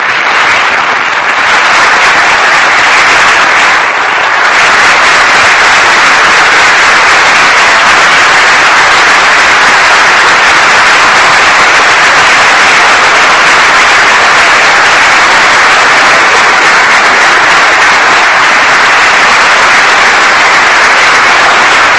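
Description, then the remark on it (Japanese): A large standing audience applauds loudly and steadily to welcome Rufin Zomahon, Benin's ambassador to Japan, as he enters: a dense, continuous wash of clapping that holds at full strength for over twenty seconds, with no speech over it. “皆様ご起立の上、盛大な拍手でお迎えください。”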